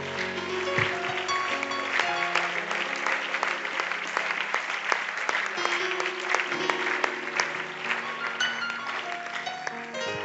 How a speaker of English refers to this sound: Would you give God a hand clap of praise this morning?